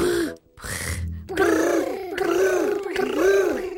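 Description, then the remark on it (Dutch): A voice imitates a happy tiger's contented rumbling brrr, a loud, rolling growl repeated in about three wavering pulses after a couple of short breathy sounds. “Maar het mooiste is de blije tijger die brrrt.”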